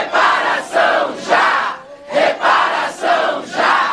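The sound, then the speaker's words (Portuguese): A large crowd of Black movement activists, filling two committee plenary rooms, chants slogans in unison in support of a proposed national fund for racial equality and reparation, loud and rhythmic, the shouted phrases rising and falling in regular bursts with brief pauses between them. “Houve intensa mobilização de movimentos negros que lotaram dois plenários do corredor das comissões e manifestaram apoio ao texto por meio de faixas, cartazes e gritos de ordem.”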